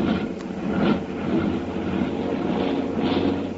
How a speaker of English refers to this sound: Oh? Hey, you hear that? Those motors are cold. One of the motors there is starting to miss. You know, that plane is loaded too heavily to climb very fast.